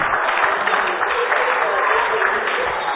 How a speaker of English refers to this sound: Okay, give me a round of applause.